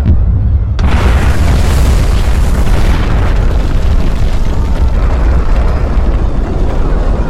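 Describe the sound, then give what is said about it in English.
Battle explosions erupt with a sudden heavy blast, then roll on as a dense, continuous booming rumble with crackling bursts layered through it, loud throughout and with no voices. “It's not a storm. It's a battle.”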